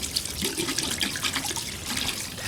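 A tap runs steadily into a sink while hands are washed, a broad hissing splash with small shifting splatters and a low gurgle underneath, with no one speaking.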